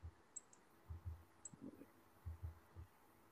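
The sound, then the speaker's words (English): A computer mouse clicks repeatedly in soft, muffled pairs, with dull, thumpy taps spaced unevenly over a quiet background, as someone clicks on the women's games on a laptop. No one speaks. “Keep clicking on the women's games and it keeps coming up with the men.”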